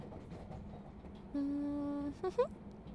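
Low, steady rumble of a train interior while riding, with a sustained electronic whine in the middle followed by a couple of quick rising tones; no one speaks.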